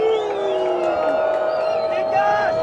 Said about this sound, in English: and again when they left, some in the crowd booed and shouted criminals and murderers.